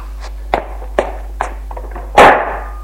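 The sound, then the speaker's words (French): Three lighter thuds at a steady walking pace, then a door slams shut with a loud, heavy bang that rings briefly as a man leaves the room. No one speaks. “Il sort de la pièce en claquant la porte.”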